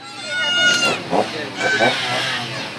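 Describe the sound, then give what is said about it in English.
A chainsaw, held by a creepy clown beside a car at a car wash, revs loudly and steadily, its whining buzz rising and falling in pitch over a couple of seconds, with a sputtering, rough edge. “Because, of course, you have to have a chainsaw.”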